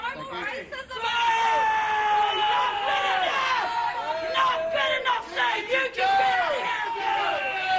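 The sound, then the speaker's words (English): A protest crowd in Dunedin boos Mr Stewart of Allied Press as he walks away after apologising to the Samoan community, many voices overlapping in long, wavering jeers that swell and persist for the whole stretch, with shouts breaking through the continuous noise. “Mr Stewart, who stood side by side with Allied Press's chief executive, Grant McKenzie, was booed as he walked away.”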